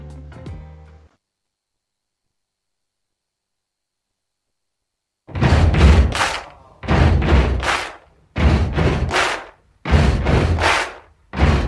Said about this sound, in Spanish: Es gente que está ahí apretujada, apenas se puede mover, pero puede aplaudir, golpear sus pies y cantar.